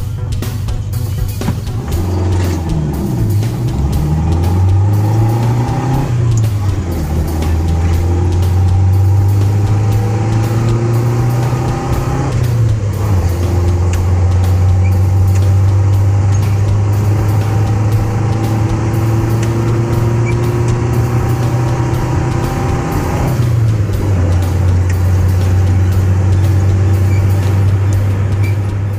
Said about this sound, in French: Vous l'avez reconnu ? Sans doute, il s'agit de la 4L.